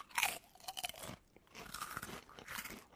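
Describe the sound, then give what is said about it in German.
Loud crunching of a Chili Chang Sweet Chili crispy snack, with bursts of bright crackling in two clusters separated by a brief pause, like repeated bites and chewing. “Wir können ja mal hier, habe ich noch gar nicht probiert. Knuspern.”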